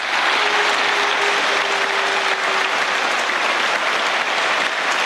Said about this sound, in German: Während ihrer Rede vor dem Europaparlament in Straßburg wurde Angela Merkel immer wieder unterbrochen. Von Applaus, aber auch von Buhrufen.